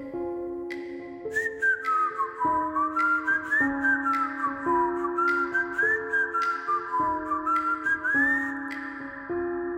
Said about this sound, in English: It was an old-timey whistle, like a... It took me a second. It was like, am I still dreaming? You know, am I really hearing this? I sit up in bed. I look around and I'm definitely awake and I definitely can hear somebody whistling a song.